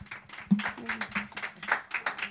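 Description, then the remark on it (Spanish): A short burst of applause welcoming a co-director and an actress of the film Un sol radiante at Ibicine, many hands clapping in a quick, uneven patter at a moderate level, with a faint low hum running underneath. “Un aplauso, por favor.”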